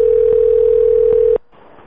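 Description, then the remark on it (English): A telephone ringing tone during a prank call hums at one steady mid pitch for just over a second, then cuts off abruptly, leaving faint line hiss. No one speaks. “So we'll do that while I make the next prank call.”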